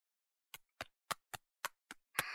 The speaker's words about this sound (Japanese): あとは仕上げに肩を軽く叩いていきますね。